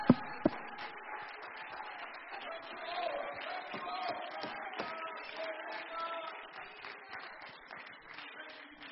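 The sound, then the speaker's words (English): An audience claps their hands together at a preacher's call to clap if they believe, in a dense, steady wash of applause, with a couple of sharp claps standing out near the start and murmuring voices mixed in. “Come on, if you believe that, clap your hands.”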